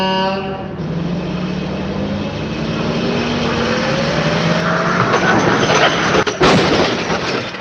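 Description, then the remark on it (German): A tractor's engine roars steadily, building for several seconds before a sudden, sharp crashing impact bursts out near the end as the tractor, towing a trailer with a cultivator, collides in a crash test. No one speaks. “Jetzt hat es gerade richtig laut geknallt, dann lassen Sie uns doch mal zum Unfallwrack hingehen, oder?”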